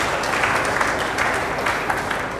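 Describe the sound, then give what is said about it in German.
Steady applause from an audience, a dense wash of many hands clapping at an even loudness throughout, with no voices standing out, given for everyone who worked hard on the previous day's USM-Sonntag. “Das lohnt sich, das auch wirklich bekannt zu geben und ist, glaube ich, an der Stelle auch ein Applaus wert für alle die, die sich da intensiv eingebracht haben.”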